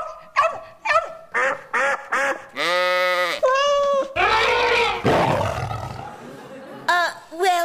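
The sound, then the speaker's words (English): A parrot squawks loudly in a rapid run of harsh, shrill calls, with short chirps, a long drawn-out screech and raspy noisy bursts, heard on its own. “Quite a parrot, though, isn't he?”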